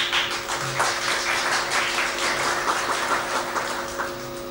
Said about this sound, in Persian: به همه شما تسلیت میگم و تشکر میکنم از تشویق‌های شما.